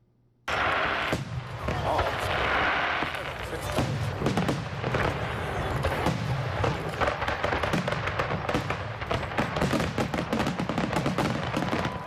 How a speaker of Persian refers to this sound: شهر واشنگتن دی سی دقایق پیش شاهد مراسم باشکوه آتش‌بازی بود.